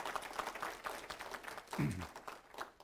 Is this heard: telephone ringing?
no